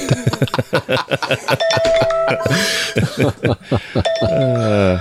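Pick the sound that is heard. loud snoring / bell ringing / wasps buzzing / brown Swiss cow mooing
bell ringing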